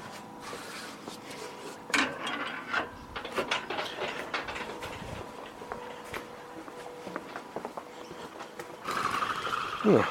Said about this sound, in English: So I'm just walking around at the back of my house. Open the side gate.